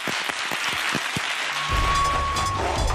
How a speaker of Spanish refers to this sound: Nada que añadir. Un aplauso. Adiós a todos. ¡Bravo!